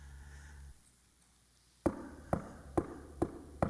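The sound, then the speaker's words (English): Five sharp, hollow knocks on a door in a steady rhythm, following a brief low hum that fades into near silence. No voices are heard. “Knock on the door.”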